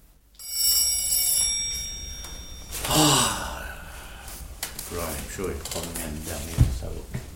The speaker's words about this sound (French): Trois dossiers qui dormaient plus profondément que moi la nuit où ce coup de sonnette me tira brusquement de mon lit.